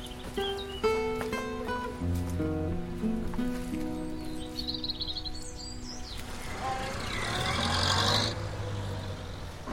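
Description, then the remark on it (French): A doctor's car engine rumbles up and pulls away as he leaves, its broad noise swelling in the second half before easing off, with sustained tones and faint chirps heard earlier. “Ça, c'est le docteur qui s'en va. Il sera venu pour le plâtre du capitaine. Mais à qui diable est cette autre voiture?”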